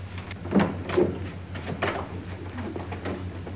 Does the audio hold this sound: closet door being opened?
yes